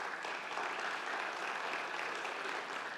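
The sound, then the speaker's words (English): A church audience claps steadily to celebrate its church plant reaching 14 years, a dense, even wash of many hands with no pauses, holding at a constant loud level throughout. “I'm going to guess by your applause that's a big yes.”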